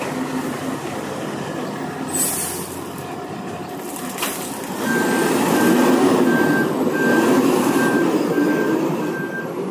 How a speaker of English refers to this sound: Here comes another truck.